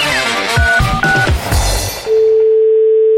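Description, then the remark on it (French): A burst of harsh electronic fax-machine noise over a phone line, from a fax left on when someone picks up the phone: chirps and short tones tumbling over each other, then settling into a single steady beep that holds to the end, loud. “Et il y a encore des gens qui décrochent leur téléphone et qui laissent le fax allumé. Et ça fait...”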